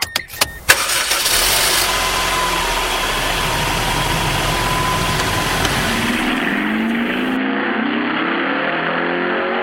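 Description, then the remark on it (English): A car engine cranks and starts with a few sharp clicks, then settles into a steady idle with a low rumble that continues to the end, in Monday morning traffic, with no talking. “Monday morning traffic.”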